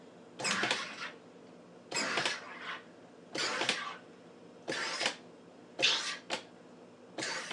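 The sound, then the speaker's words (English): A soda maker carbonates water in a bottle as its button is pushed repeatedly: about six loud, hissing, buzzing bursts, each under a second long and spaced at a steady rhythm with brief quiet gaps between, no talking. “There's a button, and you just want to push it a couple of times. And this is actually going to make the water carbonated.”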